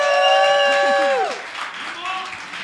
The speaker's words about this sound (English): We are very nervous. So can you just give us a clap before?